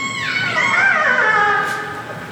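A transient killer whale call: one drawn-out, harmonic-rich whistle that slides down from a high squeal into a steady, wavering tone lasting about two seconds, over a low, soft underwater hiss.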